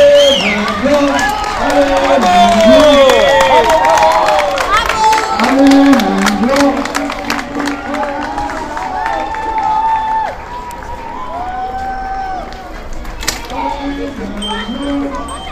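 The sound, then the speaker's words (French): A large crowd claps and cheers continuously in a triumphant welcome for children arriving by bicycle at Buis-les-Baronnies, with many overlapping voices shouting and whooping in excitement, a dense, lively roar of applause that stays loud throughout before easing slightly toward the end. “Et après quelques heures de plus à pédaler avec une belle énergie, un accueil triomphal digne du Tour de France sous les applaudissements d'une foule nombreuse accueille les enfants à Buis-les-Baronnies.”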